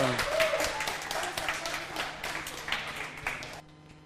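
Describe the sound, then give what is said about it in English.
An audience breaks into a steady round of applause, dense overlapping claps sustained at an even level for about three and a half seconds before cutting off abruptly. “All right, would you give these two sinners a big round of applause?”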